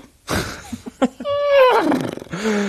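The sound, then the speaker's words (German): A person imitates a horse with the voice: a rough, breathy burst, then a shaky, falling whinny-like neigh with quivering pitch, ending in a lower drawn-out voiced tone. “Warum hast du gerade so ein Pferdegeräusch gemacht?”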